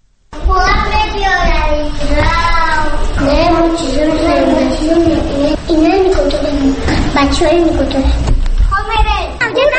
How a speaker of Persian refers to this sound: من در کودکستان شماره 34 مرکز شهر دوشنبه قرار دارم. بچه ها مشغول بازی هستند.